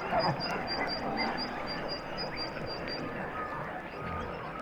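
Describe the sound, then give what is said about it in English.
A dense underwater chorus of harp seal calls, recorded by a hydrophone dropped a few feet below the ice, with overlapping chirps, warbles and croaking trills plus a steady series of high, rhythmic clicks, continuous and fairly loud throughout. “Those are all harp seals.”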